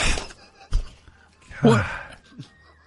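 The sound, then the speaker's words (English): Two sharp, booming gunshot bangs about a second apart ring out, followed by a loud, drawn-out groan or gasp from a voice, then a quieter tail. “Gunshot goes off.”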